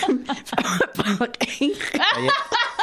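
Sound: coughing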